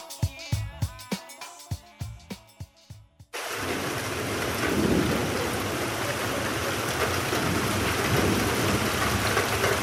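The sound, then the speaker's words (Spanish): A short rhythmic musical jingle cuts abruptly to a thunderstorm: steady, loud rain hiss with a deep rumble of thunder rolling underneath, continuing to the end without any voices. “¿Cómo se originan los rayos, los truenos y los relámpagos?”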